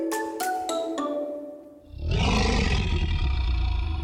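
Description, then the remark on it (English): Four quick bell-like chime tones ring out, then after a brief pause a loud, deep, rumbling Tyrannosaurus rex roar bursts in and sustains to the end without fading. “Now, if there's one animal I wouldn't want to have beef with, it's the Tyrannosaurus Rex, the king of the dinosaurs.”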